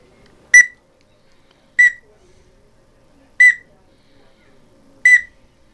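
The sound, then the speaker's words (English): Four short, high chirps from a duck call, used for ducks other than mallards, imitating the little chirp of a male teal, spaced evenly about one and a half seconds apart, each a bright whistled peep over near silence. “And that'll be the male teal.”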